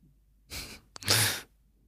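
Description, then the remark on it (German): A person coughs once with no talking: a breathy rush of air, a brief pause, then a sharp catch that breaks into a loud, harsh burst lasting under half a second. “warte mal eben kurz, ich muss kurz einmal husten.”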